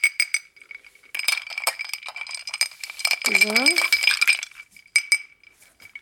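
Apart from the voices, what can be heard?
stirring a drink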